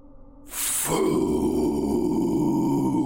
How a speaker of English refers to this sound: The thing growled, and its face opened into four large flaps.